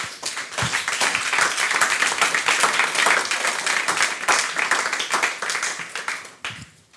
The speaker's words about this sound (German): die Sie jetzt bitte mit einem herzlichen Applaus hier vorne begrüßen.